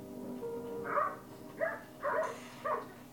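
A dog barks four times in short, uneven bursts, moderately loud, over a faint steady background hum with no one talking.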